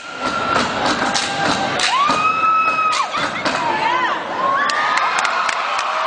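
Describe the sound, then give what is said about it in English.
A loud crowd at the National Sprite Step-Off step competition cheers and screams continuously, reacting to a step performance by a Zeta Tau Alpha sorority team from the University of Arkansas, with high whoops and shrieks rising over the roar and sharp thumps or stomps punctuating the noise. “You can hear that crowd reaction.”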